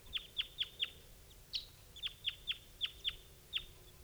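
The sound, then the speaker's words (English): A wild male bird chitters as it approaches: a series of about ten sharp, high chips in quick, slightly uneven rhythm, with a brief pause midway, over a faint low background hum. “That's him chittering on approach step.”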